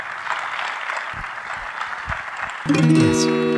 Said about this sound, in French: Je vous demande, sous un tonnerre d'applaudissements, d'accueillir